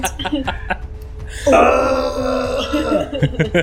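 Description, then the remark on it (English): A man's gruff grunt sound effect from a sound pack, a loud, rough, throaty burst held for about a second and a half, with quieter voices speaking before and after it. “Grunt.”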